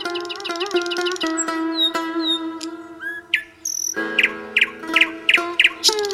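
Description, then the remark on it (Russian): Nightingales sing in a garden, with a lively run of clear whistles, sharp chirps and quick repeated trill phrases over a steady, buzzing background hum. No one speaks. “Слышат шах и визирь, как в саду поют соловьи, как благоухают невиданные цветы, как шелестят листьями деревья.”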